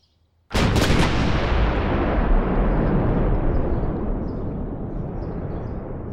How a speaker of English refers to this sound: You don't have to be that quiet, actually, because what's happening is pretty loud. Explosion after explosion after explosion. For the last 3 years, every few minutes, almost every day, one of the richest men in America has been slowly